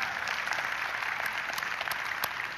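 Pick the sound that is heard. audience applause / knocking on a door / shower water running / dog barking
audience applause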